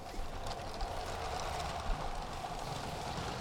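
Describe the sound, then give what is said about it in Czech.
A LEGO TGV toy train set hums and rattles steadily as it runs along its track across a LEGO exhibition display, a continuous mechanical whir with faint clicks, with no one speaking. “Hýbe se nám tady i taková TGV vlaková souprava. Vláček jezdí po celé té ploše, jak jsem řekla.”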